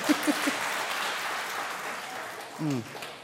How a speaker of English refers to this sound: we got to give Oki a round of applause for bringing me coffee, too